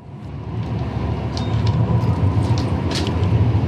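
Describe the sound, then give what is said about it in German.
A steady low rumble of a line 8 tram in Bern, Switzerland, rolling along its tracks toward the Brünnen terminus in Bern-West, heard from inside, with faint high squeals and clicks from the wheels rising over the continuous drone. “Also wir steigen wieder in unser Tram, fahren noch ein bisschen weiter Richtung Endstation Brünnen”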